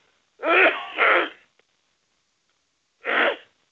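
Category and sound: human body sound, cough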